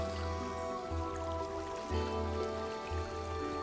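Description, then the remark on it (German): A steady wash of flowing water fills the scene, with soft trickles and drips over a continuous rushing background, even in level, interrupted briefly by low tonal hums. “Vielleicht hören sie das Singen von den Vögeln oder das Rauschen vom Wasser.”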